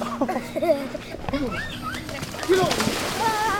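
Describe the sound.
Water splashes and sloshes in a few bursts as a man body slams his nephew into the lake at a beach at Clear Bay Campground, Lake Thunderbird State Park, mixed with excited voices and shouts, with birds faintly in the background.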